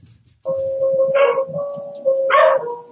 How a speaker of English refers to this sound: Somebody's at my door, and they're not going to get seen, and my doggie's going to come down and bark to tell me they're at the door.